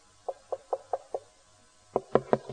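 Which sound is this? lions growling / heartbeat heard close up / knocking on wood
knocking on wood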